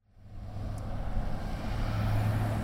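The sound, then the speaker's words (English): Tractors rumble along a dirt road next to a green field of durum wheat in Yuma, Arizona, throwing dust in the air. A steady broad engine roar with a low droning hum swells gradually louder and holds. No voices. “Tractors throw dust in the air on a road next to a green field of durum wheat in Yuma, Arizona.”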